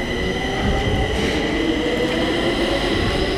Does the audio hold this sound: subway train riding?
yes